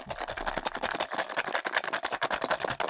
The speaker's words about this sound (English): Do you have like a dice sound effect you could use? Just like throw in a dice sound effect? You've got to have one of those, right? They're both going to get dice right now. Here's your sound effect,